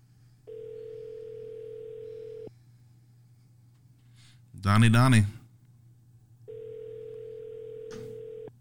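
telephone dial tone

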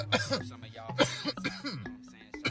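coughing

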